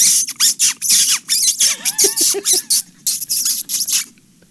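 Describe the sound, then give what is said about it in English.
A man's voice imitates a rat in pain as a sound effect for reel 10 of the film Raiders, giving a rapid string of shrill, hissy squeaks and squeals in short bursts, with a few wavering higher whines in the middle, then falling quiet. “That's not a squeak toy. That's a guy. That's a man making that sound.”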